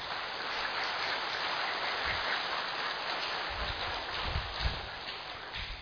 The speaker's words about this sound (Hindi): सबसे पहले अपने आप के लिए, खुद के लिए थोड़ा जोर से तालियां बजा दो।